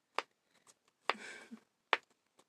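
Long fingernails tapping: three sharp, loud clicks at uneven intervals with fainter ticks between, and a short scratchy rustle trailing the second click. No one speaks.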